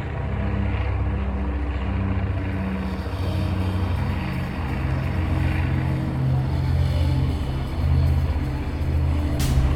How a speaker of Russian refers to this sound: Это один из последних кадров разбившегося в Тынде Ан-24. Самолет авиакомпании «Ангара» делает второй круг перед посадкой и идет слишком низко, почти цепляя корпусом сосны.